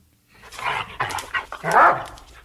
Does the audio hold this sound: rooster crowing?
no